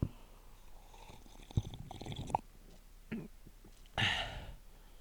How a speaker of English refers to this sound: We're going to have a sip of beer.